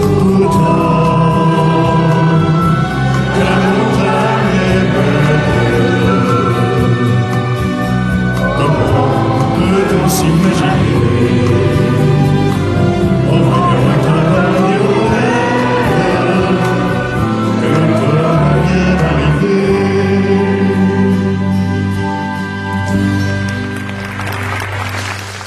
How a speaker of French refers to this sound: Lors de ses obsèques dans le village d'Entraigues, plus de 5000 personnes viennent lui rendre un dernier hommage. Avant l'inhumation, la foule reprend un de ses plus grands succès,